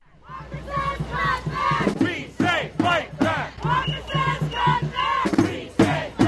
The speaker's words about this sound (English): Almost to a person, the tens of thousands of people who have been shouting and marching at the Wisconsin State Capitol for almost 2 weeks now